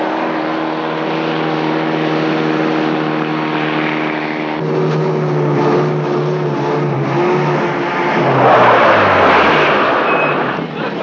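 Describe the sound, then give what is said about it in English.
A vehicle engine rumbles and revs loudly, its pitch climbing and then sweeping down as the car pulls away, headed for the airport, with no voices over the noise. “Where'd you learn to drive? The bumper cars.”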